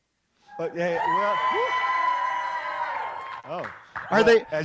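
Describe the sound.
A crowd at a New Year's Eve gathering cheers and whoops after food is mentioned, in one sustained, fairly loud burst lasting a few seconds, with raised voices overlapping before it fades and a few short calls follow.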